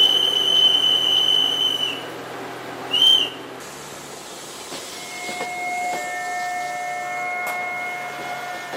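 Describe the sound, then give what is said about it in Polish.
A steam train's high whistle sounds for about two seconds, followed by a short second toot, as an official gives the train its departure signal. Then a lower, steady whistle tone comes in over a constant hiss of escaping steam. “O, jak ładnie, pan marszałek, widzisz, daje odjazd pociągowi.”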